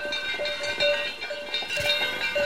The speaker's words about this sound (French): Et oui, il y avait la cloche de vache qui sonne. Alors, le début de la récré, sûrement pour jouer au bugule.